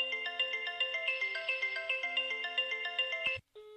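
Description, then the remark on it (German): A landline telephone in the living room at home rings with an electronic melodic ringtone, called from another landline phone; a repeating pattern of stepped beeping notes plays steadily for about three seconds before cutting off, followed by a brief single tone. “Da wird jetzt wahrscheinlich auch gleich im Hintergrund noch das Telefon aus dem Wohnzimmer bimmeln.”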